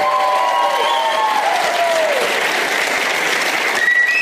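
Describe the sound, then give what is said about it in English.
A show audience gives loud, steady applause for comedian Graham Elwood throughout, with sharp, high whistles sliding across it, one falling whistle near the start and another piercing one toward the end. “Oh, the whistling. More whistling.”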